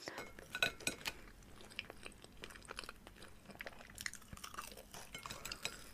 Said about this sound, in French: Sinon, les bruits aussi que les gens font lorsqu'ils mangent.